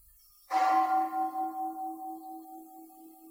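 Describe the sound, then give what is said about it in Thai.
A temple bell struck with a wooden striker: a single strike with a soft onset, then a long sustained ringing tone that slowly fades and wavers in a gentle pulsing shimmer, heard alone at moderate loudness. “สังเกตไหมพอเสียงมันมีเสียงคลางของระฆังงังงังงังใจเราก็ไหวตามนะถ้าดูเป็นนะอย่างเนี้ยเรียกว่าเรารู้เป็นขณะเลยขณะที่ได้ยินเสียงเนี้ยใจเราไหวตอนที่ไม้กระทบระฆังเนี้ยเป็นการกระทบที่แรงนะ”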